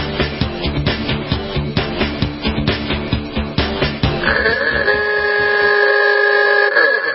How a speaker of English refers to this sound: We got my PR director, Bobby Biester, sounding the horn. Thank you, Bobby.